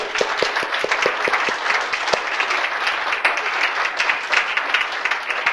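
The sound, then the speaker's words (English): An audience breaks into sustained applause to give the Lord a hand, a dense wash of many hands clapping steadily and fairly loudly, with a few sharper individual claps standing out near the start. “Can we give the Lord a hand?”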